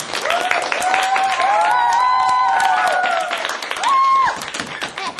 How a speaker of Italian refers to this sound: Mamma mia che bravi, veramente bravi. Lo rifacciamo un altro applauso, bello da qui.